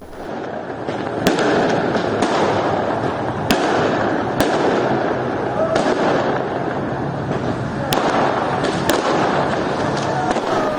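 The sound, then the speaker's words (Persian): Fireworks exploding in the city of Saqqez, Iran, hometown of Mahsa Jina Amini, over a steady roar of crowd noise, with sharp cracks and bangs going off every second or two, some louder than others, across the whole clip. “این صدای آتشبازی در شهر سقز بود، زادگاه مهسا جینا امینی، که دیروز منتشر شد قبل از اینکه خبر مرگ ابراهیم رئیسی، رئیس جمهور ایران، تایید بشه.”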